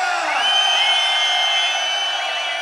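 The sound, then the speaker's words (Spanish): A large crowd at a DJ's session roars and cheers loudly and continuously, a dense wall of shouting voices with high whoops rising through it, sustained for a few seconds. “Antes de comenzar mi sesión, me gustaría que ya que todo el mundo los va a escuchar, quiero que todo el mundo se entere quién es la peña del parque y dónde está ese grito muy fuerte, familia.”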